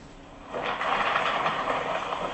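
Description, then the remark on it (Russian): A train's railroad cars roll past, a steady rushing rumble that swells in after a brief quiet moment and holds through the end, with no voices. “Вот этот вагон.”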